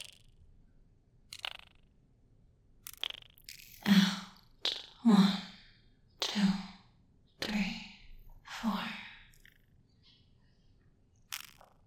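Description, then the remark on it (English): A series of airy, breathy sounds, slow deep breaths in and out during a guided, counted breathing exercise, come roughly once a second in a steady rhythm, fairly loud, with brief clicks before and after and no talking. “One more time. In. One, two, three.”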